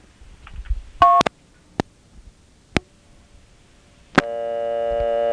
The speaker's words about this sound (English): Notice I was dumped right back to dial tone. That's what TOPS is supposed to do at the end of a call, but with a phantom ring up to this number, that won't be possible.